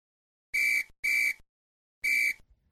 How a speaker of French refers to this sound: Au coup de sifflet, nous partons.